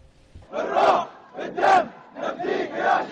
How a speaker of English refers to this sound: "We sacrificed our soul and blood for you, Martyr." That's what these Bahraini protesters are shouting as they continue protests against the monarchy which has ruled the island for decades.